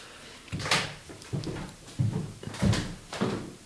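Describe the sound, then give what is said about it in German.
A wooden drawer is pulled open, followed by a series of knocks, scrapes and rattles at roughly regular intervals as someone rummages through its contents to fetch incense. No one speaks. “Hast du noch Räucherwerk, was wir aus der Schublade ziehen können? Ja, habe ich. Ich hole was.”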